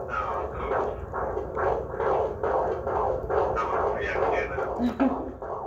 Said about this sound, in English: Can you hear? Have you asked the heartbeat? Yeah, this is it.